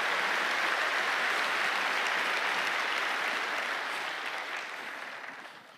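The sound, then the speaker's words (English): An audience claps their hands in a sustained, dense burst of applause that holds steady, then gradually thins and fades out toward the end. “Clap your hands and shout amen, somebody.”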